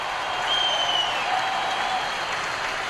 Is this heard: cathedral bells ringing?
no